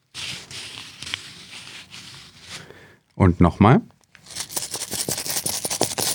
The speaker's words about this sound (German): Ja, Sie haben es natürlich längst erkannt. Geldscheine und Münzen waren das.